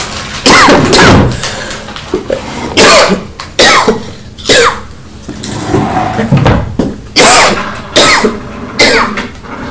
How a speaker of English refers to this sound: Oh dear, Mummy's got a cough,